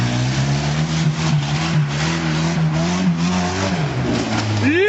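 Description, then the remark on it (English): A small four-wheel-drive Suzuki Jeep engine drones steadily, its pitch wavering as it labors, then revs up sharply near the end. “it's a little Suzuki Jeep”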